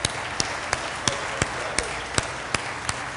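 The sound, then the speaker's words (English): A crowd applauds the MVPs standing up in the audience, a steady, dense wash of clapping with sharp, evenly spaced claps standing out in a regular rhythm, about three per second, at a moderate level with no talking. “I'd like to give you a round of applause.”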